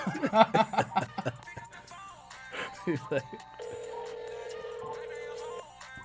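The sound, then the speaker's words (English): A man talks briefly, then a phone line rings out with one long, steady electronic ringback tone lasting about two seconds, clear and fairly loud, as the call waits for an answer. “That's a random I'm calling, too. I don't expect him to answer either.”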